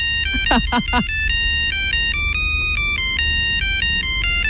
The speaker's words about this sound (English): Since I went to the effort of making these polyphonic ringtones